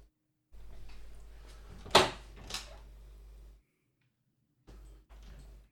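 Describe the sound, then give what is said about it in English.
A door is opened to let in a dog that was whining at it, with a few seconds of rustling, handle and frame noise and two sharp knocks or clunks, then a brief quiet before more shuffling. “Dog was whinging at the door.”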